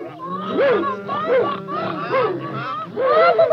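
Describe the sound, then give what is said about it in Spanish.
A voice imitates Bernabé the duck from a story, giving four nasal, rising-and-falling quacks in a steady rhythm, loud, with a faint low hum running underneath. “El pato Bernabé graznó.”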